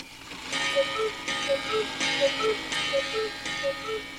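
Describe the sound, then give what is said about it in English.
A clock strikes six o'clock, with evenly spaced ringing strokes about every three-quarters of a second and a steady tick underneath. It is moderately loud, and no one speaks. “Six o'clock.”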